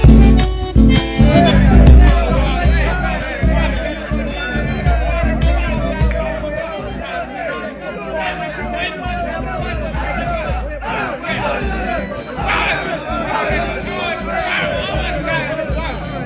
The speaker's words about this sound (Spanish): Pero otra vez ese griterío ahí, los paisanos en el otro salón apostando